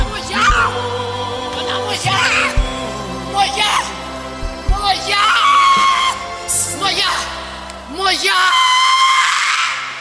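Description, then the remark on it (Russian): Loud, strained screaming from a person during an exorcism comes in repeated long bursts, with shouting voices and talk overlapping between the cries. “Видите, демоны кричат, что она принадлежит.”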